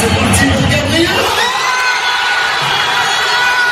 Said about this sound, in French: Un pénalty mal cadré d'Arsenal et l'explosion du Parc des Princes où plus de 48 000 supporters du PSG s'étaient réunis pour regarder la finale de la Ligue des champions de football sur grand écran.